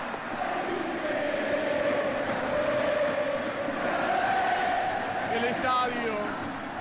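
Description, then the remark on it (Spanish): A stadium crowd shouts together at Verón in a dense, steady roar that stays loud for the whole stretch, with a sustained chant-like tone running through the mass of voices. “El estadio gritándole a Verón, porque la guerra está declarada, porque Verón es el enemigo para el poder.”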